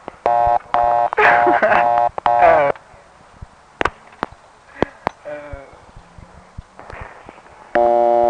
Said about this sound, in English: From the dial tone, it appears Big Spring was just a small 355 step, and it had one too.